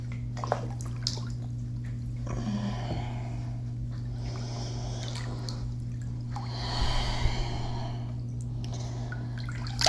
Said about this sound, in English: It's filled with very hot water. So the water's just caressing me.